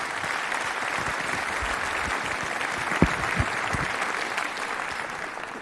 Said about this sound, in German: Vielen Dank, einen großen Applaus. Dankeschön.